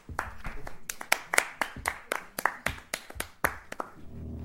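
A small audience claps in scattered, uneven bursts of sharp hand claps for a few seconds, applauding a man just introduced before a talk, thinning out toward the end, with no one speaking over it.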